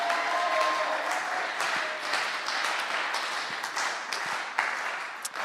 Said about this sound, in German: Ja, und dann nochmal einen richtigen Applaus für Apostelgeschichte 2, 42 bis 47.